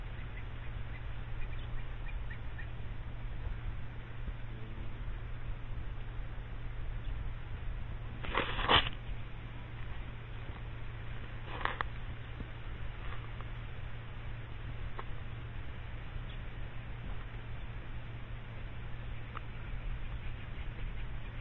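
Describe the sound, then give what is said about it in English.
A steady rushing whoosh of a large bird flock, a stream several kilometres long, streaming past, with a couple of brief louder bursts midway, all over a low constant hum and no voices. “Just whooshing past. So split in the flow again as a great white eagle flies past. But still they come.”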